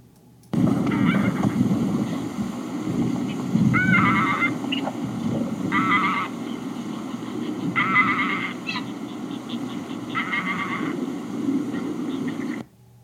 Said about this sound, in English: These are greylag geese, which are still widespread in England and the progenitor of most breeds of domestic geese. The birds are a common sight on ponds and marshes and have a distinctive hoarse honking. Listen now to the greylag goose.